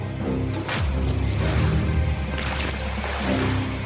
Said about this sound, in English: What's the water? Is that water? They threw water on us. Yes, yeah, so this was a part of the interrogation.